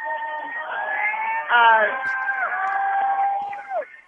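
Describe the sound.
Several hundred protesters waving signs cheer out on the street in Iowa as Bernie comes out of the building: a sustained, fairly loud swell of many voices with drawn-out whoops and shouts, surging briefly partway through before tapering off, all with a thin, tinny tone.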